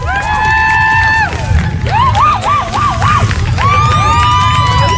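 A large audience cheers and applauds loudly and continuously for a woman who won a trip to London, with shrill rising and warbling whistles sounding over the din.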